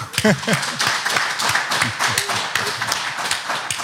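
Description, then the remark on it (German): A small audience of a few people, seated spaced apart, claps steadily for Hansi Flick, a dense patter of many hands that stays fairly even throughout, with a brief voice at the very start. “Wir haben heute ein paar Leute da, alles sitzen in so einem Abstand, aber gib mal einen schönen Applaus heute an Hansi Flick.”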